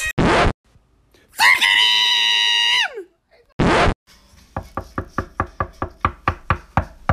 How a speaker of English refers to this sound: I've been knocking for 10 minutes, okay? I know you can hear me down there, okay?